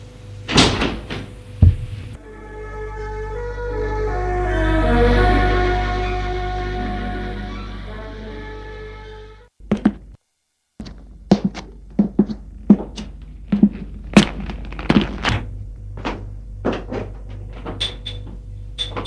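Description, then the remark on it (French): A door creaks open slowly with a long, swelling groan, then goes quiet before a run of sharp clicks and knocks from the latch and frame, with no voices. “Elle ouvre la porte.”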